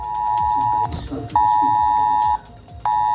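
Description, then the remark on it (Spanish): A civil protection emergency alert tone, sent to residents' phones in Málaga during a red alert for heavy rain, blares in loud, steady high-pitched bursts, sounding three times with short gaps between, over faint background noise. “Es el sonido del aviso de protección civil que ha sonado en los teléfonos de los vecinos de Málaga capital, el resto de municipios de la Costa del Sol, hasta Estepona y Manilva.”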